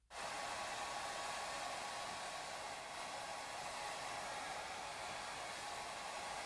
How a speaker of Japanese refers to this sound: では、最後にドライヤーで髪を乾かしますね。